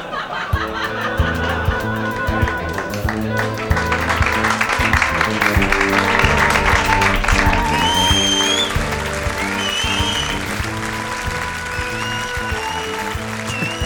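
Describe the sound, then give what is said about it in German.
A theatre audience applauds and cheers without letup at the end of a stage play, a dense, loud wash of clapping with sharp whistle-like calls rising above it and a steady tonal layer underneath. “Das Publikum ist ja völlig aus dem Häuschen, Leute.”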